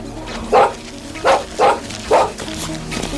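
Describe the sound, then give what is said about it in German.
The dog Timmy barks at birds four times in an uneven rhythm, each bark short and mid-pitched, standing out clearly over a low, steady background hum. “Timmy, bei Fuß! Hierher, Tim! Mach nicht solchen Lärm und lass die Vögel in Ruhe!”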